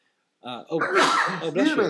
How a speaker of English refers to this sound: Bless you. Allergies are killing me this week, so pardon me.